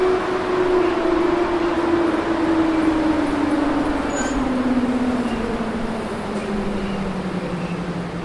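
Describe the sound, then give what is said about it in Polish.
Locomotive buffers strain as the locomotive is pressed against the wagons for coupling, a loud, steady grinding rumble of rail machinery with a low groaning tone that slowly sinks in pitch throughout. No one speaks. “Słychać opory. I mnie nie słychać, więc posłuchajmy oporów.”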